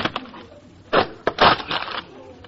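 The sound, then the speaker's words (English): A stuck loose wire is yanked in a few rough tugs: two loud, crunching bursts of scraping and cracking, with smaller rustles and creaks between them and no voices. “Oh, wait, it's stuck. I'll give it a few yanks.”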